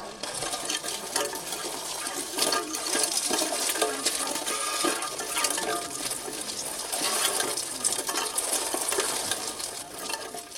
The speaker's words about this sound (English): Well, let's have a little final listen to this terrible, terrible sound of a bicycle wheel on broken glass.